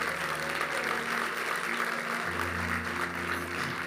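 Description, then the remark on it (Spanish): An audience claps for God steadily in a dense, continuous wash of applause for several seconds, with sustained keyboard chords underneath that shift to a deeper bass note partway through. “Si tú crees eso, dale un fuerte aplauso a Dios.”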